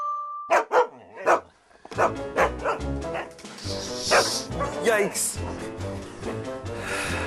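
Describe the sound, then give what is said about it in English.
A dog barks loudly at 10 a.m., three sharp barks in quick succession after a brief tone, then a dense, busy mix of sound continues with more barking woven through it. “today you barked at 10 a.m.”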